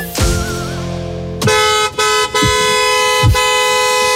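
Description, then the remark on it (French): A car horn honks loudly in a series of sustained blasts, sounded by a driver at the wheel of his car, starting with one held tone then a run of longer honks with brief breaks between them, with no voices present. “au volant de sa voiture.”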